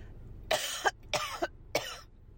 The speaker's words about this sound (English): I'm going to cough.